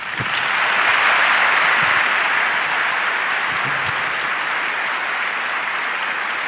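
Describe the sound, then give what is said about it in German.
Sustained applause from a large audience for the speakers at the end of a talk, a dense, even wash of clapping that starts strong and holds steady throughout without any talking. “euer Applaus.”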